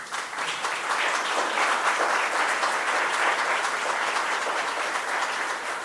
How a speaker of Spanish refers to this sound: Y los otros dos nos acompañan presencial, perdón, virtual. Un saludo, un aplauso para ellos dos, por favor.